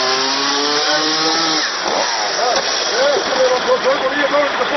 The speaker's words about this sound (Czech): je motornom testerom presekao drvene grede kako bi svojim automobilom prošao do bolnice, tvrdeći da mu je neophodna hitna medicinska pomoć